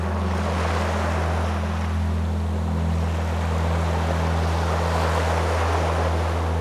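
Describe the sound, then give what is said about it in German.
Ocean waves wash steadily onto a shore in a continuous, full-bodied roar of surf, with a constant low humming drone running beneath it and no voices. “Ein Tag am Meer.”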